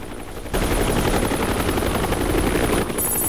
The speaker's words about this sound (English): Now, a second chopper is trying to land in the turbulent weather. It has FBI markings on it.